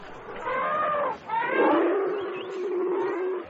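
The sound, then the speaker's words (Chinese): Elephants calling in an elephant house at a zoo: two drawn-out, groaning calls with wavering, sliding pitch, moderately loud, the second one long and low, with no talking. “Oh, the elephant house. Let's go in and take a look.”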